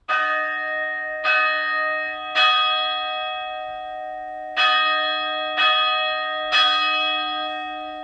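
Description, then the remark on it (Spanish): A church bell rings the 'tente nube' storm-dispersing toll, meant to scatter the storm cloud: two groups of three loud, resonant strikes, each leaving a rich, humming ring that sustains into the next, with a brief pause between groups. “este toque no solo tiene ese lenguaje que nos decía Francesc, ese tente nube”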